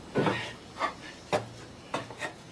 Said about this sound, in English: One of the rungs snaps off and the miner plunges to the bottom of the shaft.